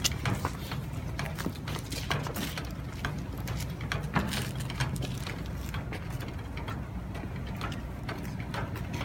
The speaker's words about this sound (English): It takes a little bit of time for a jack to actually build up enough pressure to start pushing something up. So the clunking sound you're hearing is actually the jack building up the pressure.